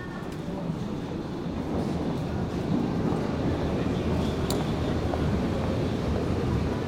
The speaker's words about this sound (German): Am Gleis 3 fährt ein, S7 Kreuzstraße. Vorsicht bei der Einfahrt.